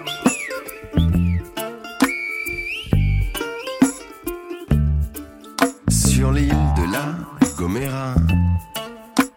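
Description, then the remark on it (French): A Guanche whistles in the Silbo whistled language to invite himself to dinner: shrill, high tones that glide up and down and hold steady notes, interrupted by pauses, over a backing of thumping low beats and music. “Un guanché siffle pour s'inviter à dîner.”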